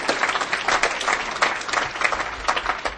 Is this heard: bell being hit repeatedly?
no